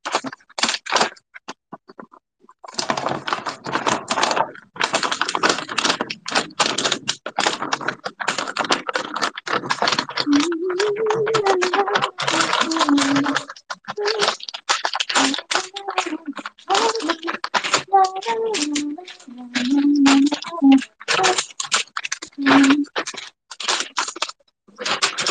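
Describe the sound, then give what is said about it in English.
Continuous crinkling and rustling of paper bags being handled, with sharp crackles and scraping rubs for over twenty seconds, and faint murmuring sounds underneath partway through. “Oh yeah, see this bag is a little too big.”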